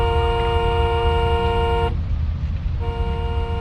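A loud, steady car horn blares for almost two seconds, cuts out briefly, then sounds again, over the low rumble of a vehicle engine.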